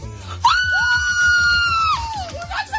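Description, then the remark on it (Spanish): Students celebrating their EBAU university entrance exam grades let out a loud, high-pitched scream of joy that holds for about a second and a half, then trails off into excited voices, with a steady rhythmic thumping underneath. “Después de los gritos de alegría, toca hacer números.”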